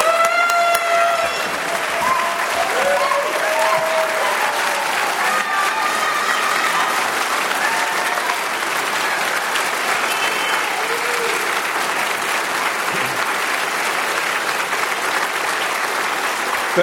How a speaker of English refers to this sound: a great doctor, a round of applause for that introduction.